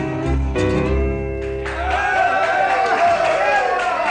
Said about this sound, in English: Well, thank you. Thank you very much. Thank you. That's awfully nice if you do all the nice applauding.